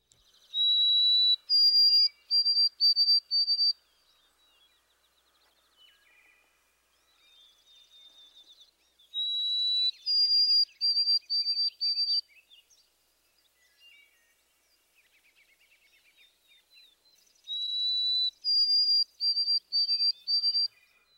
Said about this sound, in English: the white-throated sparrow's sweet whistle